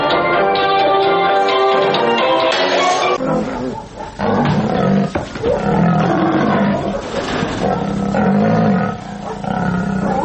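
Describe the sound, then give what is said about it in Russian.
Tigers and lions in a circus trainers' act roar and growl, loud throaty bursts repeating over about ten seconds with a long rumbling roar at the start and no talking. “Если вы послушаете, просто послушайте, а не посмотрите работу, допустим, дрессировщиков тигров, львов, вы услышите совершенно определенную звуковую кулису, которая свойственна только этим номерам.”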